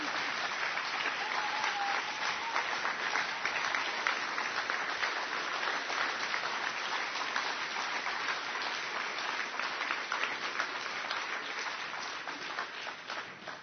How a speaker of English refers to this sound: Was that applause for me stopping her? No? Oh. I was confused. I didn't know.